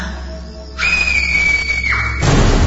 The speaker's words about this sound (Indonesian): Aku terkejut ketika tiba-tiba saja ada suara jeritan yang terdengar nyaring.